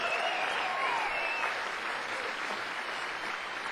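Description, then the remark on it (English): A crowd applauds steadily, a dense wash of clapping that holds at an even, fairly loud level throughout, with a few faint whistles rising above it early on. “Give another round of applause for Mr. Tom Shinnis and Casey Wiseman.”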